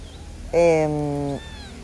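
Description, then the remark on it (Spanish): A single drawn-out meow from a kitten, lasting just under a second with a steady, slightly falling pitch, then quiet background. “Bueno, perdón, no te puedo hacer un episodio largo cuando el gatito y Buda están acá.”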